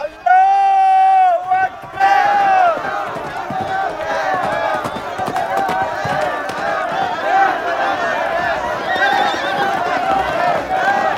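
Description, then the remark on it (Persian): A horse whinnies loudly and clearly at first, then a chaotic battle din of many neighing horses, thudding hooves and shouting crowd sweeps in and continues throughout, as soldiers flee and horses neigh and spin around. “سربازان پا به فرار گذاشتند، از پا شیهه می کشیدند و دور خود می چرخیدند.”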